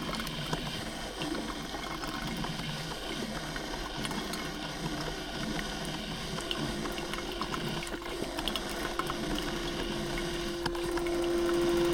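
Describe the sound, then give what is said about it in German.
A water pump draws in water with a steady churning, gurgling rush, dense and continuous, swelling slightly louder near the end as a faint mechanical hum rises underneath. “Ansaugen, dann angesaugt.”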